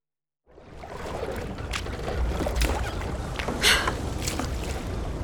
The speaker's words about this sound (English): Rowing and rowing and not getting anywhere.